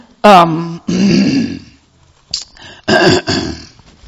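A person clears their throat several times up close, with gruff, raspy bursts and short pauses in between, loud and with no other talking.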